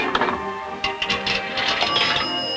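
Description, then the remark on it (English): After the flared earpiece is picked up, a coin is fed into a payphone slot in a glass-walled phone booth, giving a quick run of metallic clicks and clinks over a steady mechanical hum, with no voices. “she picks up the flared earpiece and inserts a coin into the phone slot.”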